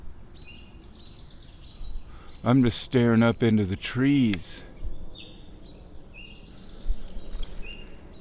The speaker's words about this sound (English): What was that sound? Birds freaking out, but not about owls.